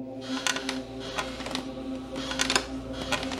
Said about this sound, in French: Mais un soir, alors qu'il joue seul dans sa chambre, Andrew entend un drôle de bruit. Comme un bruit de rocking chair qui grince.